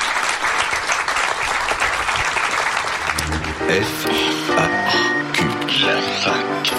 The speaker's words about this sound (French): en tout cas on peut l'applaudir.